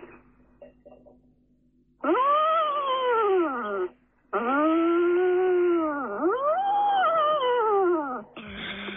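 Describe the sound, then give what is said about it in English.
A trumpet imitates a yak's mating call: three long, loud, wailing notes that bend upward and sag back down, separated by short gaps, with a fourth note starting at the end. “The mating call of a yak.”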